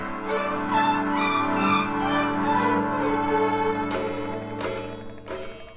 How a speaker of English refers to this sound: Hey, Remley's got it working. It's going forward now. Yeah. It's got the chimes going, too.